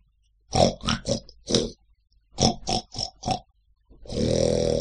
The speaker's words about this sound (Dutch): Alle mogelijke snurkige geluiden, door elkaar heen en achter elkaar door. En de snurkjes vonden het prachtig. Schitterend, riepen ze. Wat zijn dit? Dit zijn uw varkens.